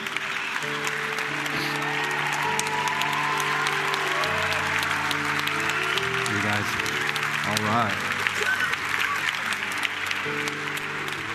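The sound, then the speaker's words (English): A large audience claps steadily and loudly for the whole stretch for a young person who has come forward, a dense wash of applause over sustained keyboard chords playing underneath, with faint voices mixed in. “You hear all those people clapping because they're happy for you.”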